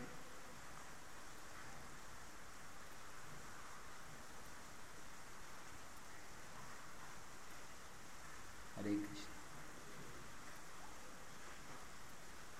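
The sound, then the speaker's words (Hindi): Steady rain falls throughout, a soft continuous hiss with no pauses, fairly quiet and even, broken only by one brief knock partway through. “सोच रहा था कि बरसात है इसलिए शायद कोई डिवोटी बाहर से नहीं आएंगे”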